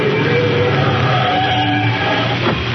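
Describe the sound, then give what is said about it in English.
A car engine hums steadily as the car pulls over and stops, a continuous rumble of motor and road noise that holds at an even level, with no one speaking. “They're driving alongside, Shadow.”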